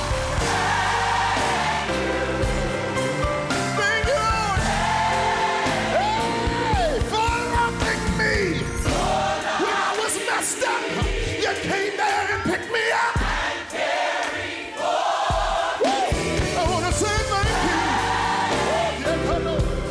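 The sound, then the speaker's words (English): A large crowd screams and yells continuously and loudly, with overlapping shouts and whoops rising and falling across the whole stretch. “gotta scream up in here”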